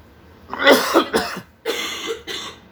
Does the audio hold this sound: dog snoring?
no